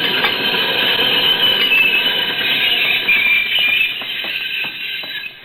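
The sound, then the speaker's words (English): An express train brakes hard, its wheels letting out a loud, sustained metallic screech over a heavy rumble, then easing off as a few rhythmic clacks mark it slowing to a stop not more than 10 feet away. “That express stopped not more than 10 feet away.”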